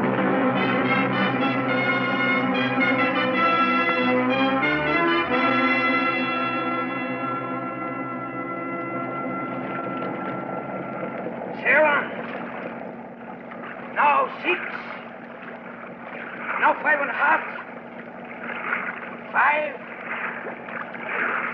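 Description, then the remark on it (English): Boat engines rev up with a rising, whining tone, then settle into a loud, steady rumbling drone as the boat makes its way through rocks. Short bursts of noise splash over the engine sound toward the end. “Now get your line out and let's get those engines revved up.”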